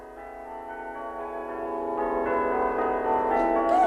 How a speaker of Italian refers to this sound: Campane? Che cosa è successo? L'erede! È nato l'erede al trono!